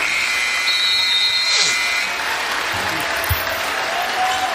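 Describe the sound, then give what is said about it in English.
A large arena crowd at a Toronto basketball game applauds and cheers as the team lets the shot clock run out for the number 24 to honor Kobe Bryant, a steady, dense roar of clapping and shouting that fills the whole stretch at a loud, even level. “And the crowd recognizing what this means.”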